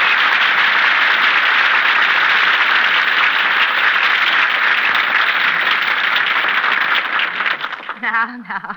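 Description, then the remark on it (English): A crowd applauds loudly and steadily for several seconds, a dense wash of clapping that thins out near the end as a man begins speaking. “Have to applaud.”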